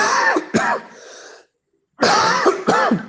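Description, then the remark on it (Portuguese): Harsh, strained coughing after choking, in two bursts, each with a couple of sharp hacking coughs and rasping, wheezy breaths between, separated by a short silence. No speech. “Ai, desculpa, me engasguei aqui.”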